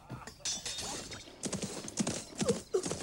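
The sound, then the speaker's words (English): Horses ridden by five kings gallop across a river at night in the moonlight, with quick, uneven hoof clip-clops thudding in a busy rhythm, joined by a brief high whinny near the end; no voices are heard. “Then they heard horses across the river.”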